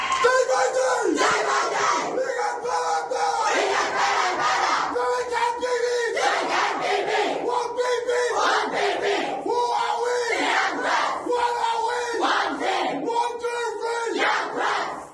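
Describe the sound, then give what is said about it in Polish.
A group of voices shouts a war cry together in loud, rhythmic bursts, repeated chant-like phrases roaring in unison and filling the whole stretch without pause. “Rozmaj z naszym wejowanskim krzykom.”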